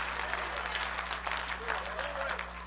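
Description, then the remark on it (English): A church audience claps hands to give God praise at a morning service, a dense, continuous burst of applause, steady and fairly loud throughout, with a low steady hum underneath and faint voices mixed in. “I need you to clap your hands.”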